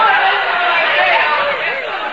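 A crowd of bird lovers hurrying out of a room, heard as a dense, steady wash of many overlapping voices chattering and murmuring at once, fairly loud throughout with no single voice standing out.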